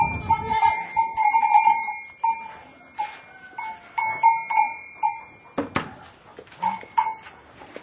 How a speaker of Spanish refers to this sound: Entrando a la cuadra a despachar las cabras.